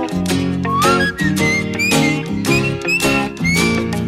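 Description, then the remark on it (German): A bright whistled melody glides and bounces over a full band backing with steady drum hits and strummed chords, loud, with no talking, played on Radio Oberösterreich. “Wir pfeifen alle Sorgen weg heute.”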